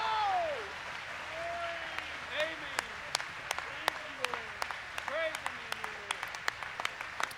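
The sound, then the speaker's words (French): A church audience rises to its feet and applauds in a steady wash of clapping, with sharp individual claps standing out and voices calling out over the applause. “L'Église s'est levée pour applaudir.”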